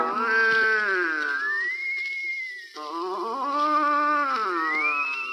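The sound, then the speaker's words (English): A voice imitates a man snoring loudly in berth upper seven of a sleeping car: two long, drawn-out, nasal tones that slide up and down in pitch, with a brief pause between them. “He's snoring in upper seven, sir.”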